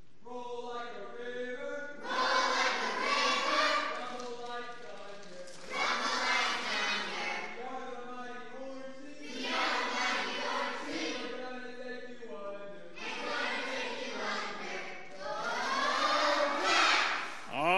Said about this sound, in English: All right. Let's hear it this time first from the orange team. Let's see if they've got a good cheer for us, and then we'll go to the green team.